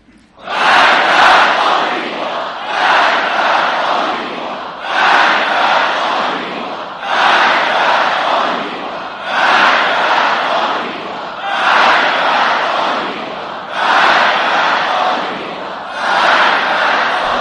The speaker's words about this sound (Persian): مرگ بر آمریکا که شما فریاد میزنید، اینی که گفتن هرچه فریاد دارید بر سر آمریکا بکشید، یعنی مرگ بر این چیزها.